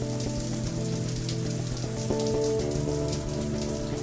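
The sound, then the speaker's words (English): A morning shower runs for the Kix 95.3 Shower Thoughts segment, in a steady, dense hiss of spraying water pattering on a surface, with sustained musical tones humming beneath it throughout. “As I shower this morning, thinking all kinds of crazy thoughts.”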